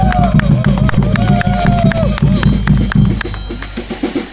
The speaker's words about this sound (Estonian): Aplaus kõigepealt!